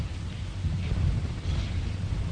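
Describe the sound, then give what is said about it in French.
A steady wash of rain hiss over deep, rolling rumbles of thunder, fairly loud and continuous throughout, with no voices. “Ils furent accueillis par un orage qui les contraignit de s'acheminer.”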